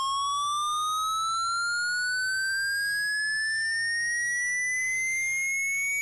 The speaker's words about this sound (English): Okay, here's the square wave, which does the same thing. You can hear that!